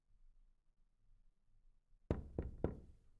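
knocking on a door

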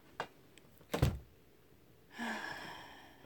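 bathroom door being closed

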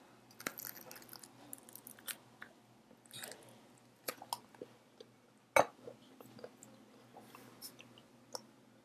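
chewing crunchy food

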